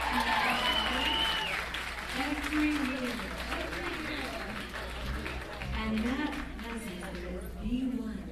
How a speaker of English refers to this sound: Manager Renaissance Fair up here in Lancaster, Pennsylvania, round of applause.